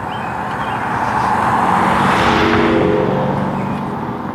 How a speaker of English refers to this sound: That wasn't a quiet car. But the neighbors love him. a Dodge Charger with an extra scoop in the hood.